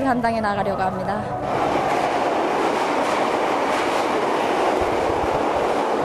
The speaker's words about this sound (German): Ganz unten angekommen, in der U-Bahn von Pyongyang fahren wir ein paar Stationen in den alten Waggons der Berliner S-Bahn.